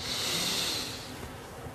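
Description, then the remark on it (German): A single long, deep breath drawn in through the nose during a guided meditation, a soft airy rush that swells and then fades over about two seconds, with no talking. “Wir nehmen zusammen mit der ganzen Gemeinschaft und mit mir einen tiefen Atemzug und atmen ein.”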